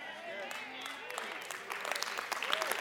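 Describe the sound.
Thin, scattered audience clapping: sparse, uneven claps at a fairly soft level that grow slightly busier toward the end, with a voice and murmuring running underneath.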